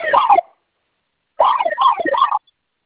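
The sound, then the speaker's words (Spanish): A security alarm siren wails in two bursts, a short one and then a longer warbling one after a pause, with a thin, tinny quality like it's heard over a phone line, while a new code is entered on the alarm keypad to silence it. “Listo, se silenció la alarma, ¿verdad?”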